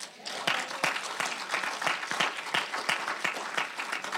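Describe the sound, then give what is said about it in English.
A church audience bursts into sustained applause as a clap offering to the Lord, many hands clapping together in a dense, steady patter for several seconds with a few sharper individual claps standing out. “Can we give a clap offering to the Lord?”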